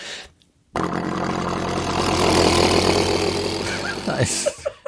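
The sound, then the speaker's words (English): A voice imitates a helicopter, starting abruptly after a brief quiet moment and holding a loud, steady, rumbling whir with rapid pulsing for about three and a half seconds before cutting off. “the thing I love the most is your helicopter. Can you do the helicopter again?”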